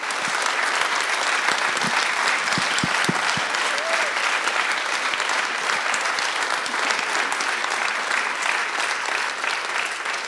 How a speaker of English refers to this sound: You guys know how to clap. Thank you.